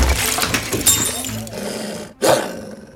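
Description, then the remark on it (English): A Christmas tree crashes over in a loud, chaotic crash, its ornaments shattering glassily amid rumbling, roar-like noise, cutting off briefly near the end before one last sharp burst of breaking. “Don't panic! No! Not the Christmas tree!”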